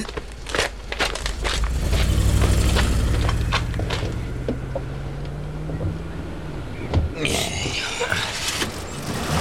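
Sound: cars driving away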